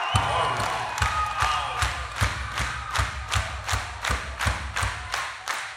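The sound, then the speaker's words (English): A large crowd in Arizona claps along with the performer in a steady, even rhythm, roughly two sharp claps per second, over a low murmur of crowd noise with no voice on top. “Arizona, let me get you guys clapping with me.”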